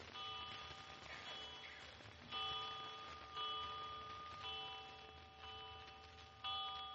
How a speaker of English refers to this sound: Seven times. Did you count the chimes?